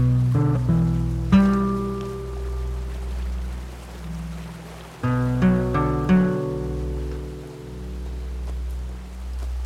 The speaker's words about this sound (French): Dans la vallée du Champsaur coule le Drac, torrent de montagne majestueux et tempétueux.